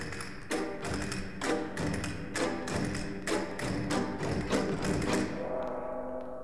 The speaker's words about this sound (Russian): Кастаньеты и гонг.